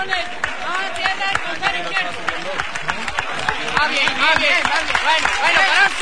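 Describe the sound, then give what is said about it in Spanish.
A crowd claps steadily for several seconds in an ovation after float bearers (costaleros) carry a palio float into a small chapel, dense overlapping hand claps building slightly louder toward the end, with voices calling and chattering throughout the applause. “Esa es la ovación del pueblo, la ovación de sus hermanos.”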